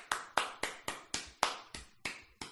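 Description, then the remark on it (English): A slow, steady golf clap: about nine single hand claps spaced evenly a quarter-second apart, crisp but moderate in volume, with no voices. “But right now, sir, I am a golf clap.”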